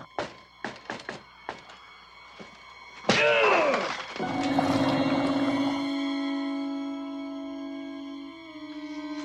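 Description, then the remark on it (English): A quick series of sharp knocks on a door, about half a dozen raps, followed by a loud crashing impact and a lingering tonal hum. No one speaks. “I always knock quick.”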